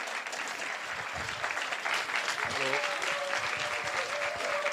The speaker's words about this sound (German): Dieter Hecking, meine Damen und Herren, VfL-Coach. Applaus, Applaus!